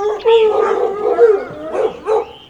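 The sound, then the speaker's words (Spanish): Dogs in a village bark and yelp in agitated, alarmed bursts at an arriving man. The barking is fairly loud, with high, strained cries overlapping across a couple of seconds. “Los perros, alarmados, le ladran.”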